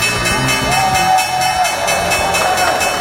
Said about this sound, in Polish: To jest ten dzwon, który obwieszcza koniec sesji. Maklerzy bili brawo, bo widzieli, że amerykańskie indeksy zyskały od 8 do nawet 12%.